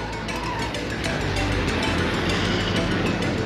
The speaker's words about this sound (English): The pickup rumbles by with Mr. Bonner's head barely visible over the tailgate.